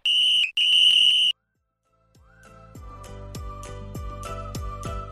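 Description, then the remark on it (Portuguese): A referee's loud, shrill whistle at a football game sounds twice: a short blast, then a longer one. After a brief silence, a steady rhythmic clatter of beats with a sustained tone fades in. “Os Virulentos estão a começar o jogo antes do árbitro apitar.”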